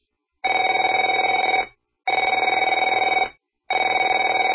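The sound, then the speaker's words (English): A telephone rings three times in a steady pattern, each ring a rapid electronic warble of about a second with short silent gaps between, loud and clear with no voices. “Afraid to answer it?”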